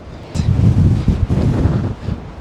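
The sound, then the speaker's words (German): Gusty wind buffets the microphone outdoors at a high viewpoint overlooking Zurich in extreme weather, a loud low rumble that swells and dips unevenly throughout with a brief airy hiss near the start. “Ja, es ist auch, man hört den Wind also schon.”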